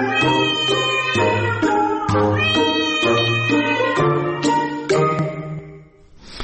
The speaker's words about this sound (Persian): بر همین اساس تا اینجای کار دانشمندان میگویند این میو میوهای معروف گربه ها بیشتر برای ارتباط گربه های اهلی با دوستان دوپایشان استفاده می شود.